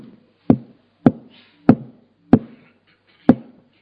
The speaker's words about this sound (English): So I knocked.